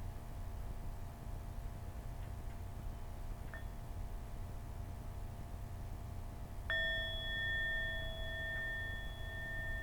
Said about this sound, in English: So with that, let's have a sound of the bell.